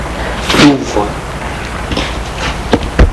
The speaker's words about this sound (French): Il va jusqu'à l'entrée de leur maison. Avec un pinceau au laser, c'est une tige qui entre dans la serrure et qui prend la forme de la clé voulue d'après les formes intérieures de la serrure. La porte.